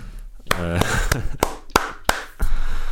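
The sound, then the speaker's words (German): Hands clap in place of a drumroll about seven times at a steady, moderate pace, each clap sharp and crisp, with a brief voiced sound overlapping the first few claps. “Ist kein Trommelwirbel, sondern Klatschen.”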